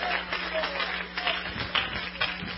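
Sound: audience clapping hands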